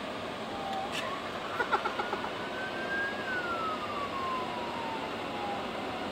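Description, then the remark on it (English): An ATV engine whines as it revs up on a highway in Kansas City, holds a high pitch, then drops off as gears change, heard over steady traffic and road noise with a few sharp clicks. “This dude is going faster on an ATV than we can go on cars.”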